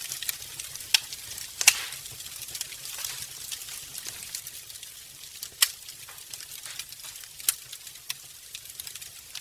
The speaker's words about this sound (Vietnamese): Ngày 6 tháng 2 năm 1974, Hằng Cô viết: chúng tôi lạy được 5 dặm, hiện cắm trại trên bãi cát biển và nhúm lên ngọn lửa vui mừng nổ vang tí tách.